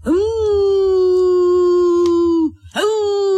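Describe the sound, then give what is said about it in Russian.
A child under a table imitates a wolf howl with a long, steady, high-pitched voiced cry lasting over two seconds, then breaks off and starts a second rising howl. “А это у нас тут под столом волк.”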